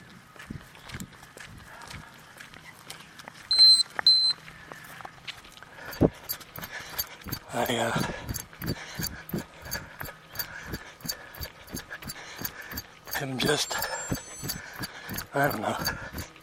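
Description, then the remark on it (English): A runner's heart rate monitor gives a few short, high electronic warning beeps because the heart rate is not up where it should be, first in a brief cluster and later once more, over steady running footsteps and outdoor noise. “And my heart rate's not up where it should be. That's what that beeping is.”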